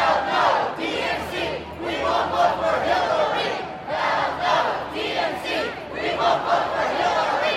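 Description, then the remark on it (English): A large crowd of pro-Bernie Sanders protesters chants loudly and steadily in the streets of Philadelphia in heat of 95 degrees or more, a rhythmic, repeated call, many voices blending into a dense roar that swells and dips with each phrase. “those pro-Bernie protesters were out on the streets yesterday, 95 degrees or more, a big crowd of Bernie supporters gathered in the middle of the city.”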